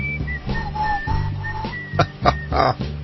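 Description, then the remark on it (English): A lazy whistled melody at the end of a song drifts over a mellow band backing, with several long sustained notes and short slides, followed by a few louder percussive accents near the end. “I'm not even going to try to whistle. I'm always tempted when that part of the record comes on, you know.”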